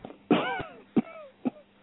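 A voice imitates the cough of a man about 80 years old: three hoarse, throaty coughs, the first longest and loudest, the next two shorter and weaker, spaced about half a second apart, with no talking.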